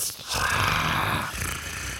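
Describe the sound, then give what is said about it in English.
A person makes a low, throaty growling noise with their voice, sustained for about two seconds, rough and rumbling like an animal's growl. “I can't do that. I know. I can only growl.”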